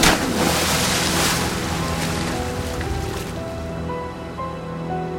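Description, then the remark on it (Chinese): Loud, churning stormy sea surges around a ship in a dramatized recording of the biblical story of Jonah, a continuous roar of crashing water and wind that eases slightly toward the end as the raging sea calms after Jonah is thrown overboard, with faint creaking tones underneath and no voices. “大海的怒涛就平息了。”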